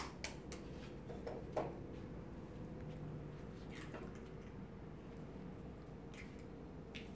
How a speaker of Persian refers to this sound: خب الان سبزی هم خالی کردم توی کاسه و میرم تخم مرغ میارم که تخم مرغم رو بشکنم توی کاسم.